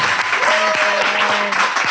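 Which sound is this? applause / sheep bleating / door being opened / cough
applause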